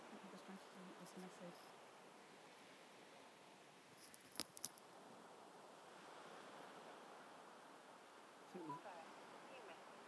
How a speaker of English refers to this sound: So I'm going to be quiet and let you hear the waves.